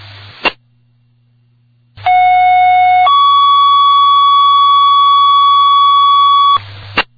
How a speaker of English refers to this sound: Fire alarm. Strike a second alarm.